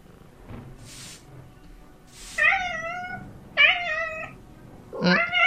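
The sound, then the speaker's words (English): A ship's hold cat on board meows three times in close succession, each call clear and fairly loud, after a few soft breathy hisses against quiet background noise. “Meow, you dimwit.”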